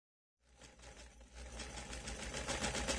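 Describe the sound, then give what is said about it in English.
A sewing machine starts up after a brief silence and runs steadily, its rapid mechanical chatter and motor hum growing louder and busier over a few seconds, with no voices, as someone sews a dress for a party. “Hey, what are you sewing? I'm making a dress for the party.”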